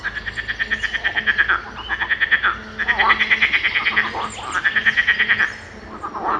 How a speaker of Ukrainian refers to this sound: десь там внизу є бурхлива річка і жаби, які так вже кричать, що їх було чутно всю ніч.